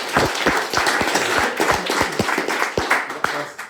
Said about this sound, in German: Aber ja, erstmal Applaus für diese Erlaubnis.